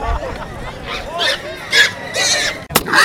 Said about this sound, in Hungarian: 12 hízó sivalkodott vasárnap reggel a pécskai piac tér szomszédságában. Volt olyan sertés, amelyik megpróbált menekülni a sorsa elől, de nem volt szerencséje.